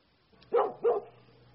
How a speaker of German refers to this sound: ein Hund.